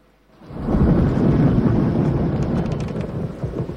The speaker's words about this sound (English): A nighttime thunderstorm lights up the sky.